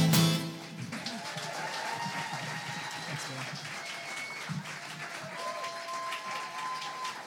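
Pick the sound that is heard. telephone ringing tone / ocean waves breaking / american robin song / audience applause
audience applause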